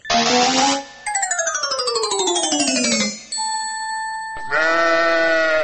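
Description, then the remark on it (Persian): Loud sheep bleats, drawn-out and quavering, come in several bursts with a descending wavering cry in the middle and a steady ringing tone between calls, from a sheep to be slaughtered as an Eid sacrifice. No one speaks. “اینه 12 بجا شد، آل گوسفند چه وقت میکشی؟”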